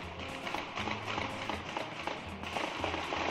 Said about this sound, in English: At 1 a.m., a shootout in neighboring Watertown, Massachusetts, killing one of the two suspects. Here, the sound of gunfire in the night.